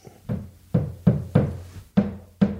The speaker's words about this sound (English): Maybe he's hammering something. Uh-oh. We're not talking that loud now. Yeah, that's not a keep quiet. Yeah, he's hammering.